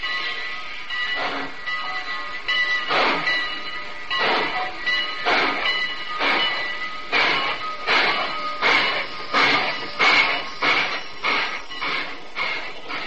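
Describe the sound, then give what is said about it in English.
A Great Valley Railroad passenger train at Northbridge, Minnesota, heard from its observation car, rolls along the rails with a steady, rhythmic clickety-clack of wheels over the joints, about two beats a second over a continuous rumbling hiss, fairly loud. “Wilbur Norris, first vice president of the Great Valley Railroad, and I were sitting in the observation car of a Great Valley train at Northbridge, Minnesota.”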